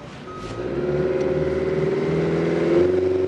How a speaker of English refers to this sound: As he pilots a flat-bottom boat through murky swamp water, he points to the trees.